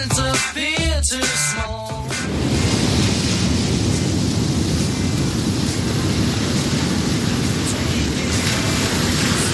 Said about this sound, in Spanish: Lo que está escuchando es el sonido de un tsunami. Un tsunami es una serie de grandes olas gigantescas, creadas, por ejemplo, por un terremoto, un deslizamiento de tierra, y al final un tsunami destroza todo a su paso.